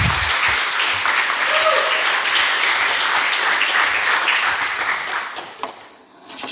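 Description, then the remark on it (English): A crowd applauds steadily for the team that made the Leap 15 release, a dense wash of clapping that holds loud for several seconds before thinning and dropping off near the end. “So please give an applause to all the guys that helped making Leap 15 a great release.”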